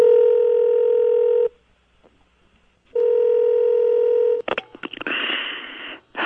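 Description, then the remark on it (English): A loud, steady telephone tone sounds twice with a pause between, then a few sharp clicks and a burst of noisy line sound as if a number is being dialed. “possibly to receive one of those phone calls he sometimes gets from the 41st president of the United States, his not-so-immediate predecessor.”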